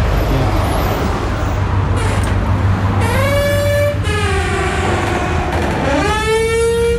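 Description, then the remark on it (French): A gym entrance door gives an odd, drawn-out squealing noise: several wavering, high-pitched whines, the longest bending in pitch, over a steady low rumble. No one speaks. “C'est la porte d'entrée du club de gym. Hein. Faut pas se mépondre, même si elle fait un drôle de son.”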